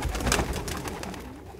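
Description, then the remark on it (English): Racing pigeons cooing, soft low throaty murmurs overlapping in a steady rolling rhythm, with a faint flutter and rustle in the background and no one talking. “Pigeons have a homing instinct like sea turtles and salmon.”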